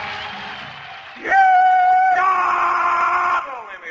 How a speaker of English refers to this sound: I'm just doing the rebel yell here to kind of kick the Stan Freeberg show off.